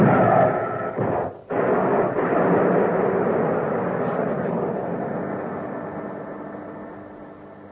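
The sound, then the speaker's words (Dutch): A loud, steady rocket engine roar with a deep rumble as the engine of spacecraft X-412 is started for the descent after a countdown. It cuts out briefly near the start, then surges back and holds for several seconds, slowly fading a little. “We gaan de motor aanzetten voor de afdaling.”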